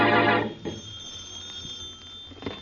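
A loud, brief ring of an old-fashioned telephone bell in the Brumley home, then a faint lingering hum and quieter background noise, with no one speaking.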